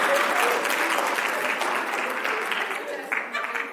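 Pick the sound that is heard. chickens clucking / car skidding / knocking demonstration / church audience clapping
church audience clapping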